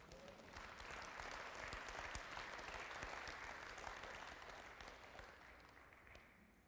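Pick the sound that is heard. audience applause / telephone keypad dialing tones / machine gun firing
audience applause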